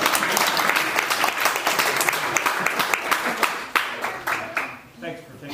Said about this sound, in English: All right, and somebody want to clap out there? That's okay.